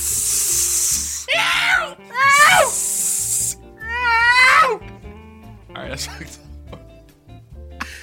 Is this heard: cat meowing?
yes